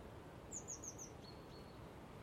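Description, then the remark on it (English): Birds chirp outdoors in a quick run of high, bright notes, a few faint tweets trailing after, all over a steady low wash of wind blowing through the trees. “Nice to just stand here and just watch the birds”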